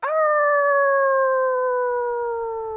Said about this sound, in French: À ce moment-là, une des louves au pelage doré se lève pour hurler à la lune.